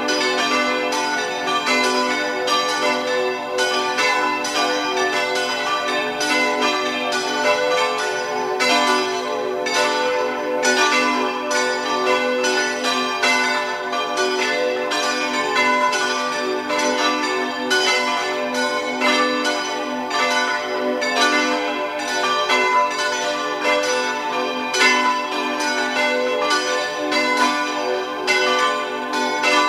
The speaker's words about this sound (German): Es ist 12 Uhr. Sie hören die Glocken der Antoniuskirche von Oetzerau in Tirol.